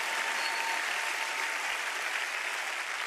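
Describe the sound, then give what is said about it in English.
Steady, dense applause from an audience: many hands clapping at once in a continuous, even wash of sound that stays loud throughout, with no voices standing out. “You guys clap loud at some stuff and not at all of it.”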